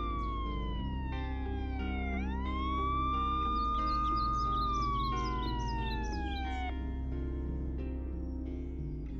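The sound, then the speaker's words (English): A police siren wails in the distance, its pitch gliding slowly up and down in long sweeps over a steady low rumble, with no one speaking. “I grunted in response as I heard the distant sirens.”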